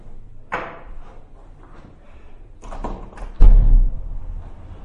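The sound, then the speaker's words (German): A door or window is handled: a sharp knock early on, some rattling clatter, then a heavy thud as it swings shut, with faint room noise throughout. “Macht ihr das hinten mit Tür und Fenster an, so wie ihr mögt?”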